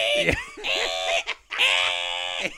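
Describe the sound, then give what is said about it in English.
A voice imitates an old 1980s dot-matrix printer that used roll paper with holes along the sides: two loud, buzzy, high-pitched screeching bursts separated by a brief pause, the second burst longer and steadier, with no words spoken. “That was what the printer used to sound like.”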